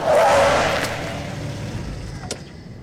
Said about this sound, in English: We're almost back at the farm when a car flashes by, suddenly stops.